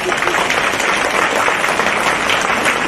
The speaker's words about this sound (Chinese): 让我们再次用掌声感恩